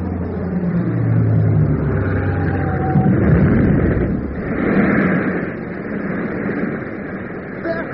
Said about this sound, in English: It's two engines! What the hell am I supposed to do? It's coming in for a bomb run. Get down, get down!